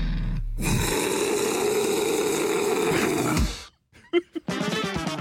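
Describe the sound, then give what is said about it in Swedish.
A person lets out a long, loud, guttural roar lasting about three seconds, raw and strained, then it cuts off and a few short sounds follow before music begins. “Ska vi bara runda av hela det här segmentet med ett enkelt vrål som alltså fan kommer ända nerifrån lilltånagen.”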